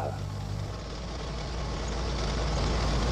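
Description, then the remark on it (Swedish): A car drives steadily along a country road through Finland, its engine and tyre rumble forming a continuous, fairly loud low drone with a broad hiss on top and no voices. “De susar fram i en bil på landsvägarna genom Finland.”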